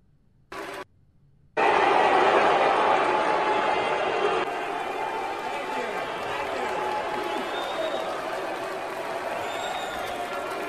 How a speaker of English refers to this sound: See, you hear about half of them clapping and about half are booing. Here's the boos.